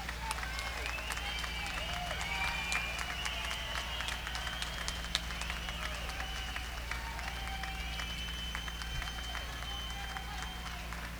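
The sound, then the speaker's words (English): Sustained applause from a sizable audience, a dense, steady patter of many hands clapping at an even level for about eleven seconds, with a faint hum underneath. “Let's give another big round of applause for being so kind.”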